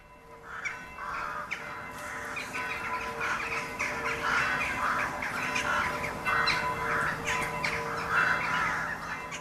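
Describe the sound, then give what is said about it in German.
A noisy chorus of rooks cawing continuously, many harsh overlapping calls repeating in irregular bursts at a steady, fairly loud level, with no voices. “Dort, wo die Saatkrähen im Frühling ihre Nester bauen.”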